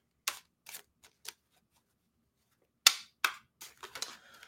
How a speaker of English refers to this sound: Let's shuffle the cards and let's see what the card for this week is going to be showing us.